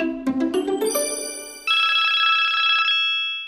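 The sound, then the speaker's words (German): A telephone rings with an electronic tone as a call is placed to the Landeshauptfrau of Lower Austria, Johanna Mickel-Leitner: a quick rising run of bright notes, then a sustained trilling ring that holds steady before cutting off. There are no voices. “Ich möchte meinen Telefonjoker einsetzen und die Landeshauptfrau Johanna Mickel-Leitner anrufen.”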